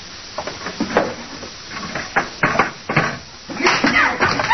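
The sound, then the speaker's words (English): Guns clunk and rattle as they're dropped into a wooden drawer, a series of fairly loud knocks and scrapes, ending with the drawer sliding shut. “What will it do with their guns, Mr. Dillon? Throw them in a drawer”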